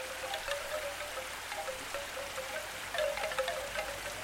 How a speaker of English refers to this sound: Typhoon season, rain washed streets, wet feet.